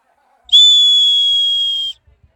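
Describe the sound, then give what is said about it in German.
A single loud, sustained referee's whistle blast signaling the start of a swimming race, a steady high shrill tone lasting about a second and a half, then cutting off, with a few faint soft knocks afterward. “Während Paddel und die anderen Jungs sofort nach dem Pfiff mit einem Kopfsprung ins Wasser eintauchten”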